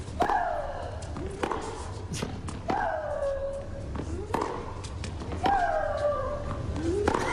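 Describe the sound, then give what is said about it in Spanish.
Tennis player Maria Sharapova's loud, drawn-out shrieking grunts, exhaled with each stroke, repeat about every 2.5 seconds, each one sharply onset and falling in pitch, set off by crisp ball strikes over a steady background murmur. “disfrutaba estimulándose con esos gritos de María Sharapova, y es porque acompaña el golpe la exhalación”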